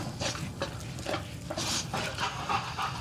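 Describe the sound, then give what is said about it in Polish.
A dog lying at a man's feet pants in quick, rhythmic breaths, roughly two per second, each a soft breathy rasp over a faint steady background hiss. No one speaks. “Kostrzewa pogłaskał leżącego u jego stóp psa”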